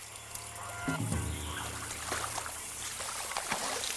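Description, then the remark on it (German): Someone searching for frogs wades steadily through shallow swamp water, feet sloshing and splashing against a constant outdoor hiss, with a short honking bird call early on. “Hier beginnt schon der Sumpf. Jetzt hier mitten ins Wasser rein.”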